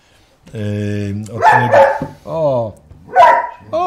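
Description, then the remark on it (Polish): A hungry dog barks loudly, a few sharp barks mixed with drawn-out whiny yelps, spread unevenly across a few seconds. “Widzicie, po prostu tyle gadał, że już pies nie wytrzymał.”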